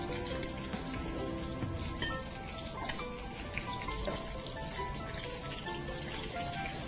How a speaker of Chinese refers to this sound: 好，我们把它分成两锅来炸哈，不要一次炸。所以说你这个果衣呢，基本上啊要调的有一点这样子水水的啊，而不是说很黏的。